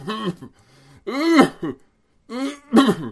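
An old man grumbles in low, gravelly bursts and clears his throat with rough coughs, three fairly loud outbursts separated by short pauses, with no words spoken.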